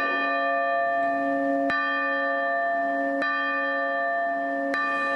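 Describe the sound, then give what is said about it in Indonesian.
Church bells ring out across Greece on a Sunday with sustained, overlapping tones, each new strike landing roughly every one and a half seconds over a continuous humming resonance, loud with no voices. “Pada hari Minggu, lonceng gereja dibunyikan di seluruh Yunani”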